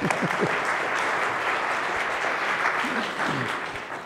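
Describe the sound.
A crowd claps steadily in a dense, even wash of applause, with a few faint voices mixed in beneath it, lasting the whole stretch before gradually easing off slightly.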